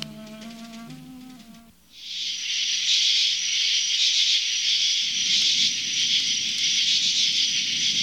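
A brief musical tone gives way to a steady hiss, and soon a dense crackling campfire, made beside a tent at a riverside campsite as night falls, joins in, popping and snapping continuously beneath the hiss until the end.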